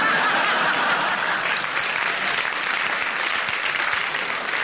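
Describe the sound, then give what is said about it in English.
Sustained applause from an audience following Derek Nimmo's challenge, a dense, steady wash of clapping that stays loud throughout with no speech over it. “I don't know why the audience clapped, because...”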